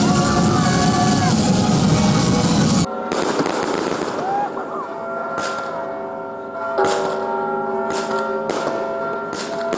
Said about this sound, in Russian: А завершением масштабного праздника стало огненное шоу и фейерверк под перезвон всех колоколов Спасского собора.